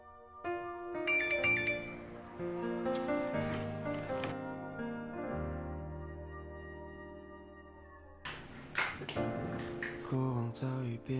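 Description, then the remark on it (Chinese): A phone's message alert plays a bright, chiming electronic melody that rings out loud for several seconds, pausing briefly before the tones start up again, with no voices. “宝宝，有人给你发信息。”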